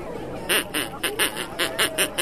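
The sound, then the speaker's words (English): A person imitates a duck with a rapid, steady run of about eight nasal quacks, fairly loud, with no other talking. “Can you quack for me?”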